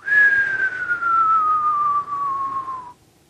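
A single long whistle slides steadily downward in pitch for about three seconds, like a falling bomb, then cuts off abruptly. It sounds like a person imitating it by whistling, with no talking.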